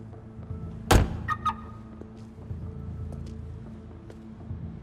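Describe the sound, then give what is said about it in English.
A car door opens with a single heavy thunk followed by a couple of quick clicks, as a bearded man climbs out of a black car at the back of a building, with a low steady rumble underneath. “The bearded man gets out of the car.”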